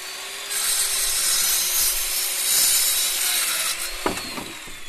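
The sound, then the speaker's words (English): A steady, raspy sawing through wood where a new house is going up next door to a sailing business renting catamarans and wave runners, with a bright, hissing texture, then a few sharp knocks and clatters near the end. No one speaks. “Next door to Britt's Norbanks Sailing business, beyond the line of catamarans and wave runners for rent, a new house is going up.”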